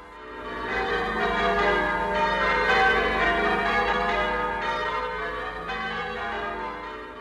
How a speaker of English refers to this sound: The people accompanied him in solemn procession to St. John Lateran as the bells pealed out from the 400 bell towers of the city.